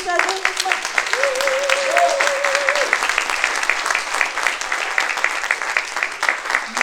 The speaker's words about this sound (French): que je vous demande d'applaudir.